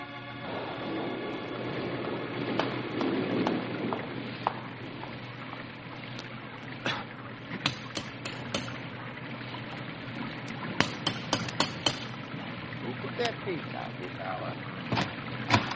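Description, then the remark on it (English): Steady rain pours on a clammy night in a dense, even hiss, broken by scattered sharp drips and taps that grow more frequent toward the end. “What in the wide world are you doing out on a pouring, clammy night like this?”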